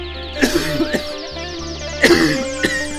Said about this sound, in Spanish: El obrero tose, tose, la máquina gime, gime, gime.